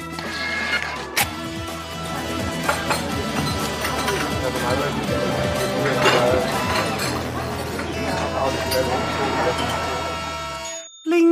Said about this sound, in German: Da ist sie wieder, die Klingel.